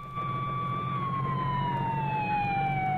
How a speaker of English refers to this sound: An ambulance swings away with its passenger.